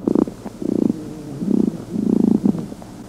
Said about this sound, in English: The males are supposed to tap females with their legs, lick them, bend their abdomens, and produce a courtship song by vibrating a wing.